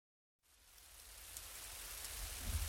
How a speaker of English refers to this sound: It's rainy.